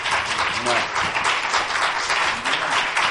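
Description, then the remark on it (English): A large audience claps hands in praise of the Lord, steady, dense applause that fills the whole stretch, with faint voices calling out underneath the sustained clapping. “Give the Lord one more hand clap of praise.”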